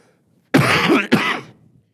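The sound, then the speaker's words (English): A loud bout of coughing and throat clearing: two harsh, rasping bursts back to back with a brief catch between them, then quiet. No one speaks. “Excuse me, I'm a cough.”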